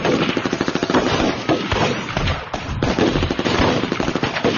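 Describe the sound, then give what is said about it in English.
A sustained barrage of rapid automatic gunfire, loud and continuous, with shots cracking in a fast, dense rhythm for several seconds and a brief dip in intensity midway. “The barrage of lead made a leg buckle, and then the video lens exploded into sparkling trash.”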